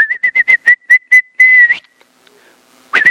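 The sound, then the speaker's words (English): A person whistles a quick run of short, sharp blasts, holds one longer note, then after a brief pause gives a final rising whistle, as if calling someone over. Loud, with no talking. “In that day, the Lord will whistle.”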